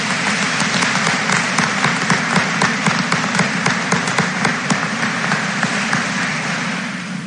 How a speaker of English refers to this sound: Let's give these Fort Recovery Community Foundation Scholarship winners a round of applause.